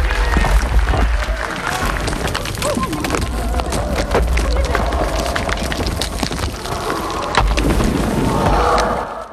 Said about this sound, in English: They bow to the crowd's cheers, but then look on in horror as the structure trembles.